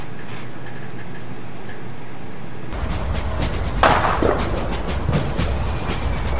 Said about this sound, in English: Ladies and gentlemen, let the fireworks begin.